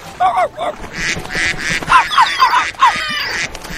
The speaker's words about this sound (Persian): وای، موجودات وحشتناک؟ ها می توانند هر لحظه حمله کنند. منظورت اردک کوچولو است؟ بله.